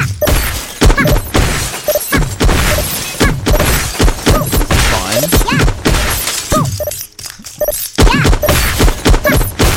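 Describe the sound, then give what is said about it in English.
Repeated crashes of shattering glass ring out in a busy, loud sequence, bright splintering bursts following one another every second or so over a dense game-like background, as glass tubes are broken with bats in a video game. “Yep, so you gotta use the bats to break the tubes.”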